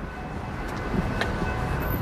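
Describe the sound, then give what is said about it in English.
A metro train rumbles past, a steady low roar with a faint high whine over it and a brief clatter partway through; no one speaks. “I hear the metro.”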